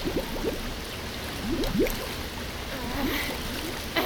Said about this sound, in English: Okay, we're almost full. Just a little more water.